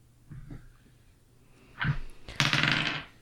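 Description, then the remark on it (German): Dice are rolled for a stealth roll, clattering onto a hard surface: a soft tap early on, a sharper knock, then a dense burst of rattling clicks that tumbles for about a second before stopping. No voices. “Erstmal würfelst du bitte einen Stealth-Wurf. Oder wenn alle dabei sind, dann bitte alle.”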